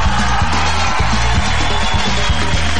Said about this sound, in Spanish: Un aplauso.